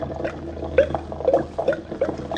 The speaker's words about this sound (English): That yellow stuff I got dripping into this blue stuff at the rate of one drip per 2 seconds seems to be turning the blue stuff green stuff. Now to increase the drip speed and see if it makes any difference.